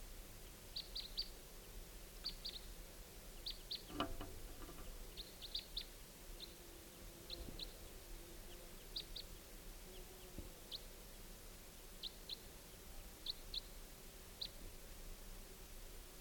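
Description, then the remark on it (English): Short, high chirping calls from two birds coming in overhead at about 5:30 p.m. repeat in clusters of two or three throughout, fairly faint against a quiet outdoor background, with an occasional soft thump. “Bird coming in about 5:30 p.m. Got two birds.”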